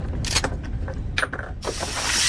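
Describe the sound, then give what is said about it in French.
An electric saw cutting a pistol into small pieces: short mechanical clanks and whirring bursts, then a steady, loud, harsh grinding hiss that builds and holds to the end. No one speaks. “Et la voilà qui se débarrasse de la sienne d'arme en la découpant en petits morceaux avec une sorte de scie électrique pour ne pas avoir à la vendre et prendre le risque de la voir atterrir ensuite entre les mains d'un tueur de masse.”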